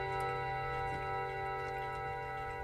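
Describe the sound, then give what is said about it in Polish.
An antique clock in a clockmaker's workshop strikes, its bronze gong rods ringing out with a rich, sustained metallic tone, several clear pitches shimmering together and lingering steadily throughout, fairly loud with no voices. “Nieprawdopodobnie piękny, czysty dźwięk pochodzący ze strun wykonanych w brązie.”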